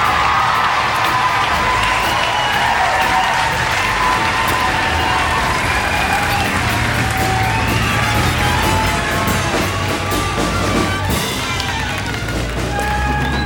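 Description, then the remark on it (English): A large crowd cheers and applauds continuously to welcome a guest musician who is with the band tonight, a loud, dense wash of clapping with whoops and shouts rising above it, sustained without a break throughout. “A nice welcome for”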